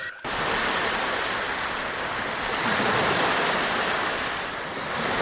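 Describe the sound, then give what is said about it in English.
Continuous ocean surf ambience, a dense steady wash of breaking waves with gentle swells in loudness, even throughout, with no voices. “Or beside the magnificent ocean?”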